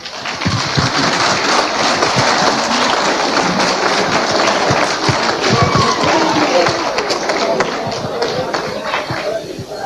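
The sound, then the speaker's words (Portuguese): An audience in a hall breaks into applause for the women present at a celebration, a dense, steady wash of many hands clapping that holds at a fairly loud level for about ten seconds, with some crowd murmur mixed in. “Para elas também uma salva de palmas.”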